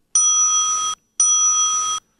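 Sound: bell rung three times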